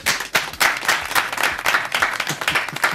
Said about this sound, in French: Je vous demande, s'il vous plaît, d'applaudir comme il se doit.